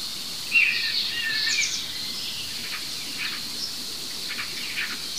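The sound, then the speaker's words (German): A starling mimics a common buzzard's thin, mewing whistle, a short high call in the first couple of seconds. A steady, hissing insect-like drone and a few faint chirps continue throughout. “Aber diese anderen drei Vögel vorher, alles unser guter Star.”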